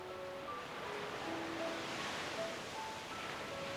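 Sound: ocean waves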